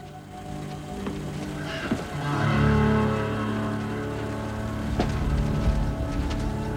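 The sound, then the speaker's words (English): A car engine idles with a steady low rumble while the driver sits in the car, swelling slightly louder partway through and then holding a constant hum, with faint rattles and clicks around it and no talking. “As he sits in his car, men approach, blocking him, looking through the windshield quizzically at him.”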